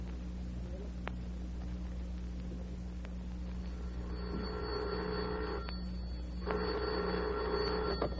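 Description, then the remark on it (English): An old telephone bell rings in two sustained bursts, a buzzing metallic jangle that starts midway and repeats after a short gap, over a steady low electrical hum with a few faint clicks. “The telephone bell, the electric railroad.”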